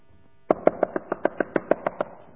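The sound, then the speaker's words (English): A rapid series of about eleven sharp knocks on a wooden surface, evenly spaced and fairly loud, starting after a brief quiet moment with no voices present. “You better be knocking. And that's more than one time.”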